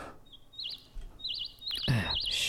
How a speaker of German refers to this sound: Also der Vogel da ist gemeint. Ach, Gregor, du hast einen Flugmodus drin. Ach, deswegen zwitschert's auch.